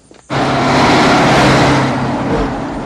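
A truck roars in abruptly and drives over a wig lying on the road, its deep engine rumble and broad road noise holding loud for a couple of seconds before easing slightly as it passes.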